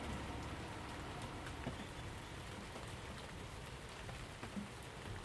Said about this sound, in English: As I try to find a non-dripping spot below the shed overhang, you must probably hear the fact that it's raining.